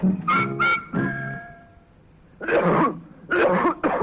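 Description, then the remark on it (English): A harsh, rasping cough repeats in several hacking bursts with short pauses between them, fairly loud, with a strained, throaty tone at the start. “What a nasty cough.”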